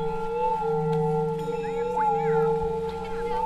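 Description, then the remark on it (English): A small Tibetan-style dolphin singing bowl is struck with a mallet and rings with steady sustained tones. A small amount of water swished inside bends the pitch into warbling, chirp-like glides that sound almost like dolphin calls, continuous. “There's a small amount of water in the bottom of the bowl, and she swishes it around after striking the bowl with a mallet.”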